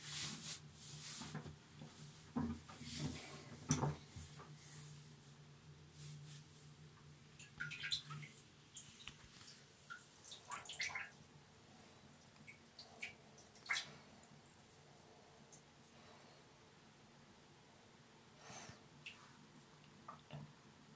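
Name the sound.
urinating into a toilet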